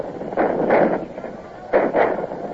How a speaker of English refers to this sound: Here come their cannon. They seem to have plenty of ammunition to waste. It grew darker and snow began to fall. The campfires of the enemy glowed as yellow as before, and the flashes of their cannon remained regular as clockwork.